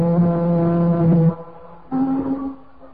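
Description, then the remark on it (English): Two long, deep blasts of a ship's foghorn, a loud low droning tone followed after a short pause by a second, slightly higher-pitched and softer blast from another ship, first taken for an echo. No one speaks. “It's not an echo, Louis. It's another ship.”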